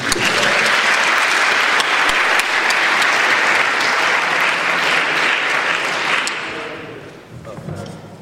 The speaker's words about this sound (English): Once again, please applause.